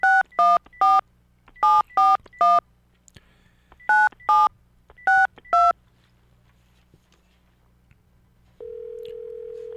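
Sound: telephone dialing tones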